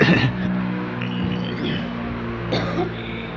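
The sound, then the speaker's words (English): A steady, droning engine roar from an airplane passing overhead, with low humming tones holding throughout and a brief rise in the rumble partway through. “Well, I'll wait for the plane to go over first.”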